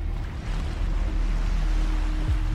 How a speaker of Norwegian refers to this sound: Sjøen er grov. Det bølger, og kraften fra det raskt synkende skipet trekker ham nedover.